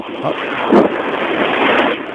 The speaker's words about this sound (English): Oh, yeah. Yeah. The sound of a wave on a cell phone, that's like nothing I've ever heard.